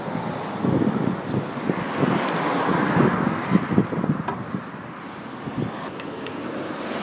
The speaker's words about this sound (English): And as you can see, it's quite busy with the traffic down Reigate High Street, with everybody heading home.